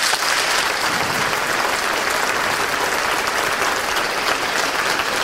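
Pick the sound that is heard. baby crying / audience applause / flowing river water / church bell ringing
audience applause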